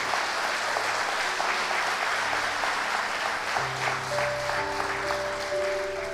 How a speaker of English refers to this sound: Give them a round of applause, please, and the whole staff.